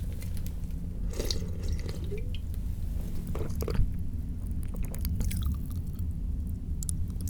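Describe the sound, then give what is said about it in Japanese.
Wet mouth sounds with fine crackling and popping as the mouth opens after drinking a carbonated alcoholic drink, like carbonation fizzing on the tongue, scattered irregular clicks over a steady low background, no talking. “炭酸のお酒を飲んだ後、口を開けるとパチパチって音がするの分かる。”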